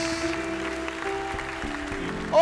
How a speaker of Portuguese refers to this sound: Aplauda o Senhor Jesus.